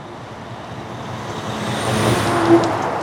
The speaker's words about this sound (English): Kimball's a tiny town in northern Wisconsin where you're more likely to hear the rumble of logging trucks than the scream of an ambulance siren.